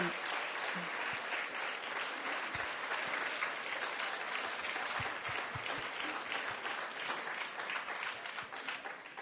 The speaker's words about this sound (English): A zatleskáme jim. And we will applaud. Jako dík.